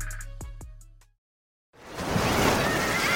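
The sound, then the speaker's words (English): Following a brief electronic tone and a moment of silence, ocean waves rush in, a steady, fairly loud wash of surf breaking on the shore with no voices. “Hear that? Believe it or not, summer is just around the corner.”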